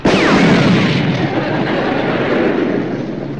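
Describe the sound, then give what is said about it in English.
A car explosion bursts in with a sudden loud blast, followed by a sustained roaring rumble and crackling debris that slowly trails off over a few seconds. “It doesn't matter anymore, Max. We don't have a car to put it in.”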